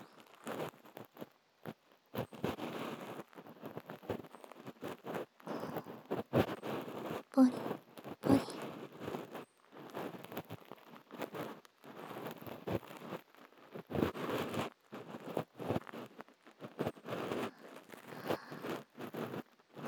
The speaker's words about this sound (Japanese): まれにコリコリと音がするのは耳垢がある場所なのですわ。耳かき棒を伝わって私の手でも音がわかるのですから、あなたにもわかりますでしょう。ポリポリ。